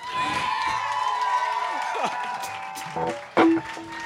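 An audience applauds in a steady, dense wash of clapping mixed with cheers and scattered high whoops, swelling into a louder burst of shouting just before it ends.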